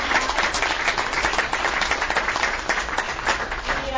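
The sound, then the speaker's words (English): Steady applause from an audience for a panel of speakers, many hands clapping together in a dense, continuous patter that holds at an even level for several seconds with no voices standing out. “So I will close with, first of all, I will close with a round of applause to our awesome panelists for making a drive and time.”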